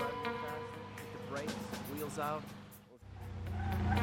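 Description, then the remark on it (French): A car, Jennifer's Blazer, reverses out of its driveway at full speed around 10 a.m. and pulls away, tires screeching in wavering high-pitched squeals, with a steady low motor rumble that swells louder toward the end, under a man's voice talking. “Vers 10 heures, il avait vu le véhicule de Jennifer reculer de son allée à toute vitesse et partir dans un crissement de pneus.”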